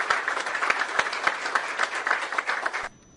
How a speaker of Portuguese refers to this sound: Tá aí, muitas palmas, né? Tinha muita gente apoiando mesmo.